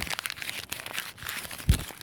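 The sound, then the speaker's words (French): A dry, crackling tearing sound runs for about two seconds in uneven rasping bursts, ending with a short, dull thud. No voices. “Déchire.”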